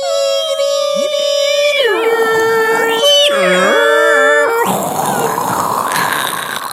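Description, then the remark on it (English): Someone vocally imitates a dial-up modem: steady tones, then warbling pitch swoops and glides, ending in a harsh, hissing burst of static-like noise. It's loud and continuous, with no other talking. “Make your modem sound.”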